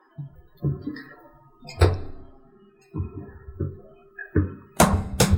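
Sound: knocking on a door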